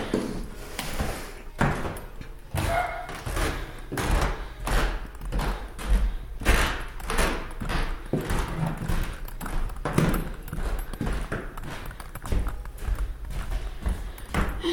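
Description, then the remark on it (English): Footsteps cross a creaky wooden floor and move onto ceramic tile, a steady series of sharp knocking steps with no one talking. “Creaky wooden floor onto some ceramic tile.”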